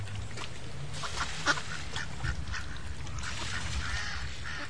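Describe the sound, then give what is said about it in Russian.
A flock of ducks quacks and chatters continuously, several birds calling at once at moderate volume over a steady low background rumble, with no voices. “Ей было очень интересно узнать, куда же летят утки.”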